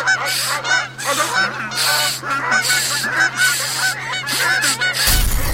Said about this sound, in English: We have literally thousands of the fuckers flying around in every single... They're trying to get into the copter. They're getting caught in the black... Oh, my God. They're literally everywhere. The copter's filling with geese.